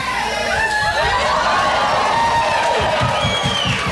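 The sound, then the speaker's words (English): A crowd cheers and whoops with loud overlapping shouts and high excited voices, a dense, sustained roar of reaction with scattered laughter mixed in, as a cigarette is puffed into a red light. “So, see, I'm gonna puff a cigarette into the red light, and you're gonna hear the crowd reactions.”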